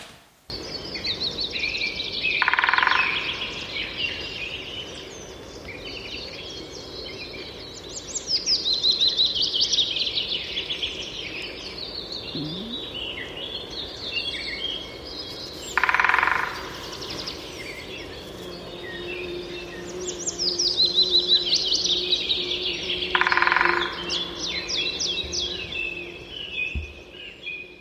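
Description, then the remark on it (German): Great spotted woodpecker calls among steady birdsong: bright, high, descending chirps repeat throughout, broken three times by short, dense bursts, with a faint low hum underneath and no talking. “Also der Buntspecht hat mich da auch schon mal ein bisschen in die Irre geführt, weil wenn er dann so auf Wellblech oder es hört sich auch von Ast zu Ast unterschiedlich an.”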